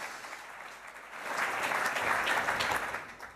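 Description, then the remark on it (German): An audience applauds at the end of a presentation, just before the question session: a steady wash of many hands clapping that swells in the middle and eases off slightly toward the end, with no voices over it. “Applaus.”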